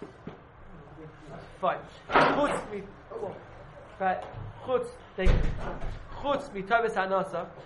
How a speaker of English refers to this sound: Sorry, someone close the door. Sorry.